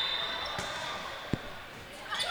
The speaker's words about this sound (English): Slaps the basketball.